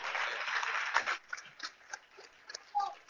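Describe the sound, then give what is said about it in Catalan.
A short burst of clapping from a small group, dense for about a second, then thinning into scattered, uneven claps that fade out. “Jo demano un aplaudiment.”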